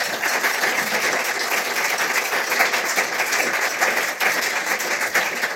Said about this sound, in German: Einen herzlichen Applaus nochmal, Ewald. Schön, dass du da bist.